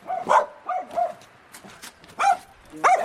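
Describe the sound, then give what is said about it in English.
A dog at a house barks several times in short, uneven bursts, fairly loud, with brief pauses between yaps and a couple of softer whiny sounds in between. “Yes, hello, dog.”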